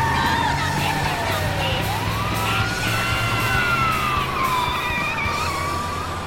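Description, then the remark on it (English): A loud ambulance siren wails, its pitch sliding down and then sweeping back up, as a speeding car narrowly misses the ambulance, over a steady low rumble of engine and traffic noise. No one speaks. “Tucker speeds away from Juanita and Candace, who has a bloody forehead. He narrowly misses an ambulance.”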